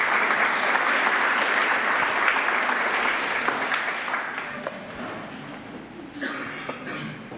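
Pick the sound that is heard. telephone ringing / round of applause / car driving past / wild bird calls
round of applause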